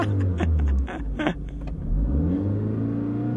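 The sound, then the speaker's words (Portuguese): A car engine revs loudly, rising and falling in pitch, then settles into a steady rumble as a young man drives off in his parents' car. No one speaks. “Sem ninguém saber, Nuno roubou o carro dos pais para tentar impressionar Maria.”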